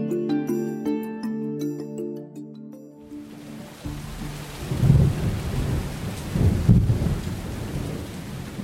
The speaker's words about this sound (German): nach einer Weile prasseln die Tropfen nur so auf einen hinunter